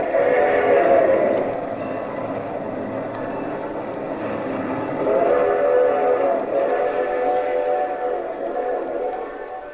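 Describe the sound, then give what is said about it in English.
A train rolls steadily along the rails, a continuous loud rumble with a droning tonal hum that swells and fades slightly, with no voices. “We'll be aboard that train too, Foley.”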